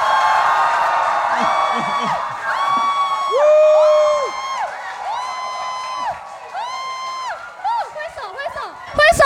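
A crowd of voices screams and whoops in sustained, overlapping high-pitched cheers, loud, rising and falling continuously for several seconds with no clear speech, as a live audience of young people welcomes a guest.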